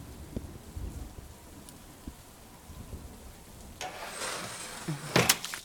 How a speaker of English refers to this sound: And while he's here, I'll just wrench this window open. Ah, I love when nature works with me. Spooky atmosphere complete.